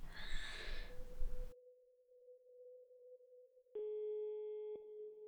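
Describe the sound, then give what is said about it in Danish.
After a brief burst of rustling noise, a steady electronic telephone ringing tone hums on the line of a call to Københavns Kirkegård, a cemetery in Copenhagen, then grows louder and brighter with a click near the end. No one speaks. “Jeg ringer med et spørgsmål.”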